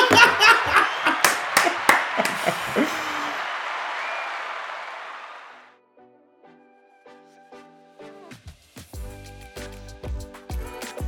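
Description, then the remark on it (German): A burst of dense, crackling applause with many hands clapping, loud at first and fading away over about five seconds, followed by a quiet pause and then rhythmic music with punchy beats. “Das ist ein richtiger Applaus wert.”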